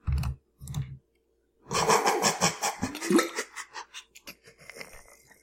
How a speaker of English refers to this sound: I just, like, choked on my water.